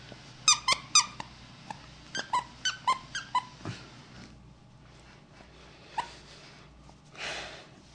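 A dog lets out a rapid run of sharp, high-pitched squeaks, first in quick pairs and then in a steadier series, followed by softer snuffly breaths and one last squeak.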